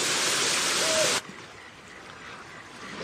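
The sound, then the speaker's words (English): A loud, steady roar of rushing waterfall water fills the first second, then cuts off abruptly, leaving a much quieter, faint outdoor background. “That's all from the waterfall.”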